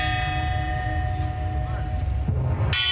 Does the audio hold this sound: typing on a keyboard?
no